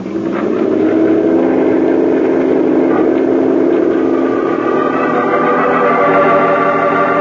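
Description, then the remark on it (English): A boat engine roars at full speed on a river, a loud, continuous droning hum that stays even throughout with no voices. “Radio the other boats to fan out. Throw their spotlights on the river and on both banks. We'll take the center of the fan. Okay, full speed.”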